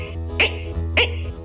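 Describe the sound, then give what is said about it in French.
A voice imitates frogs croaking: two short, throaty bursts about half a second apart, each with a harsh, breathy edge over a low, buzzing hum. “Et même de temps à autre, on entend certaines grenouilles qui font...”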